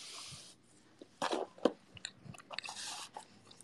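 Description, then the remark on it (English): Crunching as someone bites into a crisp cookie, crunchy on the outside and chewy in the middle, and chews it: a series of irregular crackly crunches and wet mouth sounds over about four seconds, with no talking. “Cookie eating noises are to be expected.”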